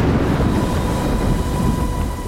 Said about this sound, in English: Lely heard the deafening crack of thunder.